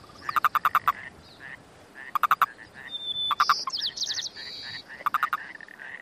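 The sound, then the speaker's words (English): A male Yosemite toad gives quick, clipped chuck release calls during breeding, when males fight and jump on each other, in short rapid bursts of several pulses, repeated four times, fairly loud, with higher chirping calls and a steady outdoor hiss behind. “And they do this chuck noise that is their release call.”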